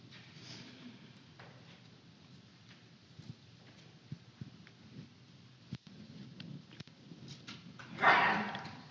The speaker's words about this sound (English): Bless you.